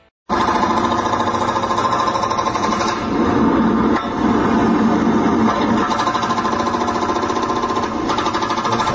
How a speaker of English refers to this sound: Certainly think that's a jackhammer there. Yeah, that was correct.